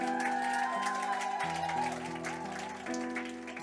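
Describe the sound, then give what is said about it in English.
An audience claps steadily throughout for a woman musician, a dense patter of many hands, while sustained instrumental chords play underneath and shift pitch a few times. “So you guys clap for her.”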